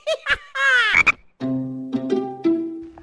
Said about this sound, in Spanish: Canto en la orilla, vivo en el agua, no soy pescado, ni soy cigarra. ¿Quién soy? ¡Soy una rana!